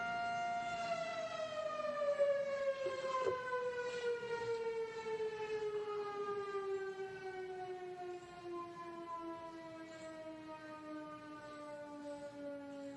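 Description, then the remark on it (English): A town noon whistle siren wails steadily on its own, a loud sustained tone whose pitch slowly slides downward over the whole stretch, with no talking. “And we'll hold off for about 30 seconds while we wait for the noon whistle to make its way.”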